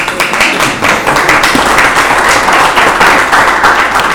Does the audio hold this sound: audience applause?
yes